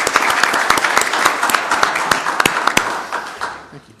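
A room full of people applauding, dense overlapping claps at steady volume for a few seconds, then thinning out and fading toward the end.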